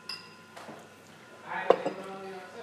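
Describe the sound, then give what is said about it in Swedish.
An old bottle and its lid clink and tap together as they are handled, a few light glassy knocks building to a brighter cluster near the end, with faint voices. “Bäst för att se flaskan. På locket.”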